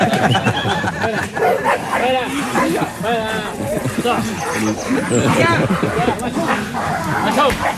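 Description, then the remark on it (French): At least three dogs bark in short, repeated bursts, mixing with several people talking and chattering at the same time in a busy, crowded space. “Les trois chiens au moins.”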